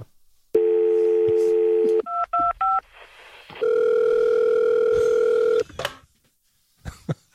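A steady telephone dial tone hums, then three quick keypad beeps are pressed, followed by another long, loud electronic phone tone that cuts off abruptly. No one speaks.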